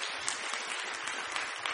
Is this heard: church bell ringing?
no